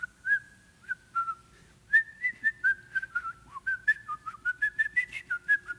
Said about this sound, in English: Sometimes I'd go around the room and I'd whistle.